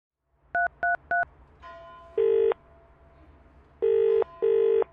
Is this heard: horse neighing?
no